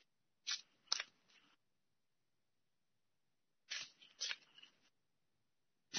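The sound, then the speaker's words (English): Two short bursts of cards being shuffled, each a quick riffle of crisp, fluttering snaps, separated by a few seconds of silence, with no voices. “So I'm shuffling and shuffling.”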